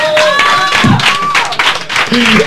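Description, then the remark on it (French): An audience applauds in a loud, continuous burst of dense clapping, with whoops and cheering voices rising over it throughout. “Laurent, vainqueur à l'applaudimètre.”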